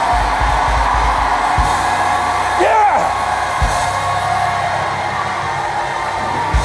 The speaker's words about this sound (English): No, if you lack wisdom, let me put it another way. If you'd like to enter into God's wisdom, shout now.